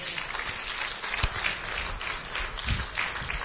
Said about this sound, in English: Would you give the Lord a great big hand clap of praise this morning? Isn't He wonderful?